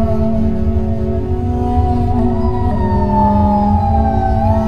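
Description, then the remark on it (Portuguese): A police siren wails steadily with a slowly sweeping pitch, loud and continuous over a deep, rumbling low-end drone, with no voices present. “Sirenes de polícia, caixão de lata, carro funerário.”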